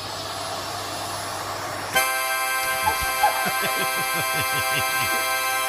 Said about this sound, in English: But nothing made me laugh this weekend harder than the tape on YouTube was called Vacuum Cleaner Meets Harmonica in Japan. And so there is a harmonica laying on the floor, and a vacuum cleaner grabs it.